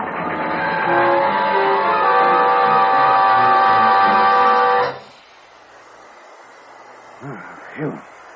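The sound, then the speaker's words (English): A freight train brakes hard on a curve and nearly leaves the rails, a loud, sustained metallic screech over heavy rumbling that cuts off abruptly after about five seconds, leaving near-quiet broken by two brief vocal sounds. “Boy, she almost left the rails that time.”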